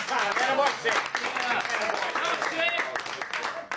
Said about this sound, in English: But I want to say a special thank you to the man who is by my side tonight, Mr. Sid Luft. He's the guy who got me back on stage. And I think, yes, I think he should get his own round of applause. Mr. Sid Luft, everybody.